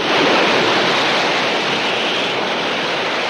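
A dark, stormy sea roars in a steady, dense wash of crashing waves, loud throughout, with no voices.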